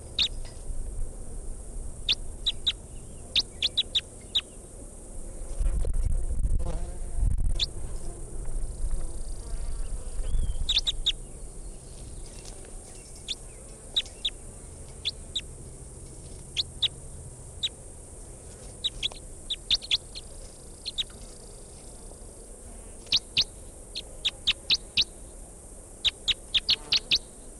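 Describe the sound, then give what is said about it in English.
Short, high-pitched bird chirps come in scattered clusters throughout, recorded at 5 meters from decoy birds with the record level all the way up, over a constant thin high hiss like insect buzz, with a soft low rumble briefly swelling partway through. No one speaks. “327 is the type 2 bird, 305 there is the type 4, and 273 is the type 3 bird.”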